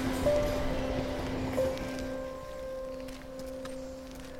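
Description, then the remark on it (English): A National Express C2C passenger train on its way into Fenchurch Street rolls past on the railway line beside Scrapyard Meadow, a steady low rumble under sustained whining motor tones, with no voices. “Adjacent to the railway line, we can hear a National Express C2C on its way into Fenchurch Street.”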